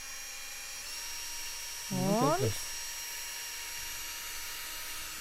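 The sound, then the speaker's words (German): A drill whines steadily, boring a small shallow hollow into a clamped wooden board the whole time as wood shavings come out, with a single short spoken word breaking in partway through. “Oh, und da bohrt es schon klasse, rein.”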